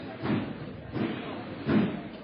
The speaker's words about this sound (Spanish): Ahí suena el martillo. Ahí está.